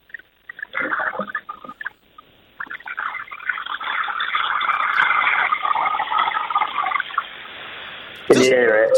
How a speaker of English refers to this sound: Just hold the phone down so we can hear a little splashing around there.